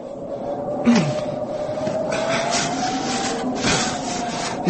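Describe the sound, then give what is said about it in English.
Steady scraping of a shovel pushing through snow to clear a door, with several rougher strokes standing out against a continuous gritty rasp, and no voices. “Well, just take me a minute to shovel your door free.”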